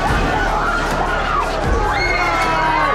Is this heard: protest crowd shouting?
yes